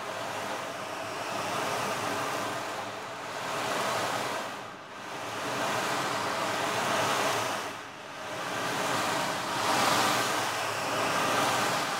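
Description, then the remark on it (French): Ocean waves roll in steadily, a broad continuous wash of surf that swells and recedes in slow cycles every few seconds, loud with no voices. “Attirée par le bruit des vagues, la lune aperçut notre terre et l'aima aussitôt.”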